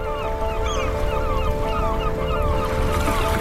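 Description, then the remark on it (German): Seagulls screech and cry repeatedly under a blue sky in the harbor of Quebec City, Canada, on an afternoon, over a steady, droning ship horn in the distance, with a constant low rumble of wind and water underneath. No one speaks. “Die Möwen kreischen am blauen Himmel. Aus der Ferne ist ein Schiffshorn zu hören.”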